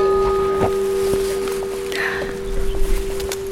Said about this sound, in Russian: Монастырская тишина. Только птицы и изредка бьет колокол.